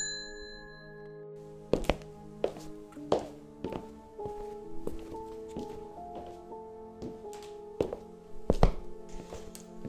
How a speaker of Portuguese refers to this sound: a porta se abriu, fazendo um pequeno barulho de sino, que se encontrava sobre ela, e quebrava o silêncio aterrorizante.